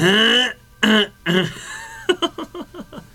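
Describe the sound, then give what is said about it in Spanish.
A person clears their throat: three drawn-out, voiced rasps, then a quick stuttering run of short guttural bursts that trail off. “Al mal tiempo, buena cara. O buena carraspera.”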